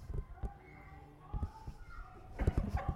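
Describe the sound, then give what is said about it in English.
Children playing and calling out, their high voices and scattered shouts rising and falling in bursts, with occasional thumps and footsteps in a busy background. “I love hearing the voices of kids playing.”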